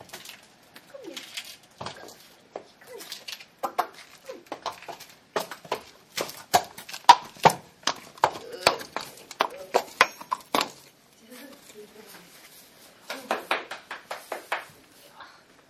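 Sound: horse hooves clip-clopping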